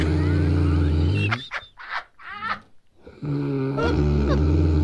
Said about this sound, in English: Right? That's a brown bear.